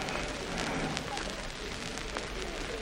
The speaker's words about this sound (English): Right at the end of the very long platform. And the train just come in, a train on its way up towards Cockfosters.